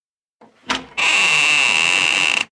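A soft rattle and a sharp latch clunk as the door of a grandparents' house is unlocked with a spare key, then the door swings open with a long, steady, high-pitched creak lasting over a second. Fairly loud, no voices.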